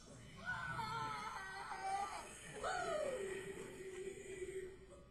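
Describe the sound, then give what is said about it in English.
A voice imitates a blood-curdling scream: two long, wavering shrieks, the second rising sharply then sliding down into a sustained wail, loud with no other talk. “So we pulled the van out, and I just hear a blood-curdling scream.”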